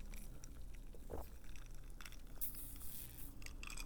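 Three soft, wet gulps of a drink, with faint mouth and swallowing noises spaced out over a few seconds and no talking.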